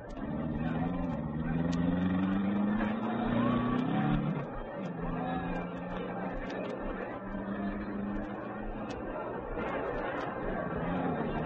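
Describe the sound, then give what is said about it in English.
A steady murmur of crowd chatter fills the scene while race car engines idle and rumble low as the cars are driven slowly into their starting positions along the track, one engine note rising briefly before settling back into the hum. “The cars were being driven slowly into their starting positions along the track.”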